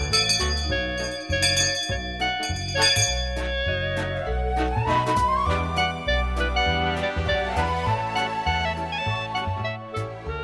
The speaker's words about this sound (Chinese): 听到上课的铃声响起来的时候呢，心里面特别的高兴，因为我们又可以上课又可以学习了。